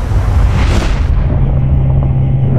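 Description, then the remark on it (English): A loud explosion roars with a dense, rumbling blast that surges early, then settles into a steady, heavy low-end rumble that lasts to the end, with no voices. “Hard to sleep, what with that explosion.”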